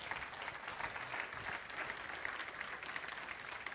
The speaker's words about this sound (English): Come on, somebody. Give a good clap offering this morning.